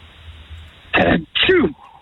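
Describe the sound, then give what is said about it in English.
A loud sneeze from a caller over a telephone line, in two sharp bursts like an "ah-choo," each lasting about a quarter second, with quiet line hiss before and after. “Line three, give us your best sneeze, please.”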